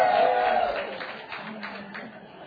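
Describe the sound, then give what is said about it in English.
A crowd of women from Washington State cheers and claps, with high-pitched whoops rising over scattered applause that starts loud and gradually fades as the noise thins out. “Women from Washington State, let's hear you cheer here.”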